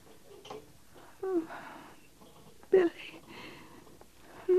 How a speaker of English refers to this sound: A little water on her face. Maybe it'll brighten her. She's breathing quiet enough. Too quiet, Captain? I don't think so.